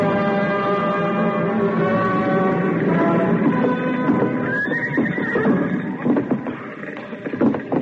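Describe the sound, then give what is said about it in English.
A horse neighs loudly and at length, its shrill whinny rising and wavering, over a dense, rough background of noise and clattering movement, as it is led out of a burning, smoke-filled stable. “I'm back here, Tom. Trying to get the last horse out.”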